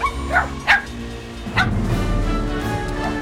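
animal, puppies barking and yipping

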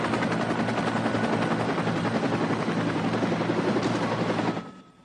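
vehicle, helicopter landing

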